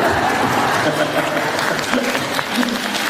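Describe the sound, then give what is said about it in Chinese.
Steady audience applause fills the whole stretch, a dense wash of many hands clapping at an even, sustained level, with faint murmurs from the crowd underneath. “啊，这次比较自觉，我没叫你们就鼓掌了。”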